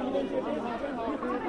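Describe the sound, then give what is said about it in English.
Many overlapping voices chatter at once, a steady murmur of a crowd gathered in the street after an earthquake, with no single speaker standing out, the babble holding an even loudness throughout. “Everybody has run out on the street. There are crowds gathered.”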